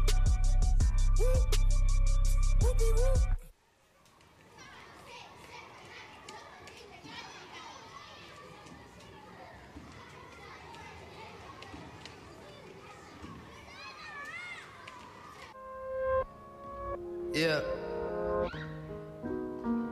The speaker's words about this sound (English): On 4th Street, the orphan children play on a jungle gym.